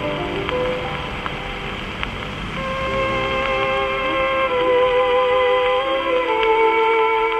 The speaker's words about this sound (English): What we're hearing is obviously an early recording from nearly a century ago.